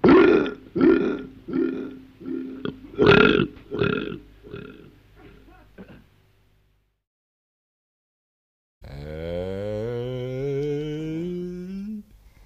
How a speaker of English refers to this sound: He burped.